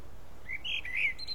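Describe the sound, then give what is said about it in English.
A few short, high-pitched bird chirps and twitters over a steady faint background hiss, clear, with no voices present. “And tell me, bird, how do you worship God?”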